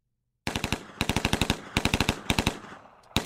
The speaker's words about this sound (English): Would you roll out machine gun number one, please?